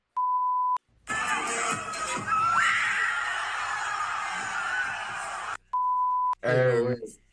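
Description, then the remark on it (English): A huge stadium crowd screams in terror in a loud, sustained roar for several seconds as a man stage-dives into it, framed by two short electronic beeps, with a brief shouted voice at the end. “But literally, he jumps into the crowd and you can hear the entire stadium just screaming in terror.”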